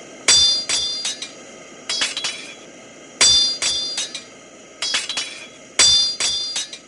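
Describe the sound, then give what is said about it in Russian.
Ringing metallic hammer blows on an anvil, loud, in repeated bursts: each group opens with a heavy clang followed by several lighter, bell-like taps, in a steady forging rhythm, as two smiths forge horseshoes, one tapping the anvil with a small hammer and holding tongs while the other strikes the metal. “Я стучу по наковальне, а он бьет по металлу”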